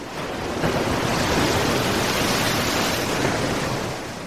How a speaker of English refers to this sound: Suddenly, a big wave splashed over him.